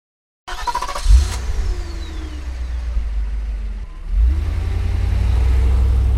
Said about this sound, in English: Soon, Mr. Brewster has to go. See you tomorrow, Angie, he says to Molly's mum. He gets into his car and waves as he drives away.